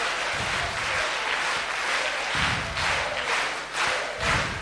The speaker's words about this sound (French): Donc à chaque fois qu'on applaudit Jésus, il faut y aller avec toutes ses forces jusqu'à en avoir mal aux mains. Parce qu'il mérite vraiment nos applaudissements, notre joie.